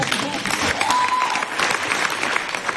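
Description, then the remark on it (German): Steady audience applause as two people are called onto the stage fills the whole stretch, a dense wash of many hands clapping at a fairly constant level, with a brief faint tone sounding through it partway. “damit sie sich ihren mehr als verdammten Applaus abholen.”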